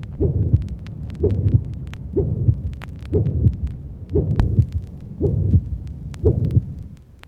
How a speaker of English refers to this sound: In the first illustration, you will easily hear a loud, harsh, musical systolic murmur. Loud, harsh, musical systolic.